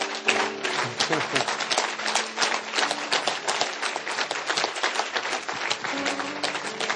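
A crowd claps steadily for several seconds, a dense, even wash of many hands with no single rhythm, while a voice murmurs faintly underneath.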